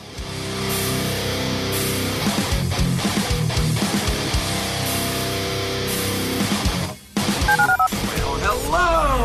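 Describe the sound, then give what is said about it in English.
A long, loud run of telephone keypad dialing tones as a phone number is dialed, one steady beep after another, layered with busy production sounds, briefly cutting out near the end before warbling tones take over. “To call into the HRNP listener line, dial 713-780-ESPN. Dial the phone.”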